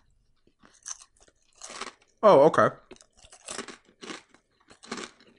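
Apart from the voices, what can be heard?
crunchy snack being chewed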